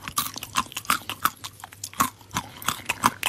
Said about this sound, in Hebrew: לעיסה מספר שתיים, אתה מוכן? כן. לעיסה מספר שתיים.